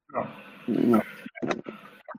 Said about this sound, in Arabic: عطست.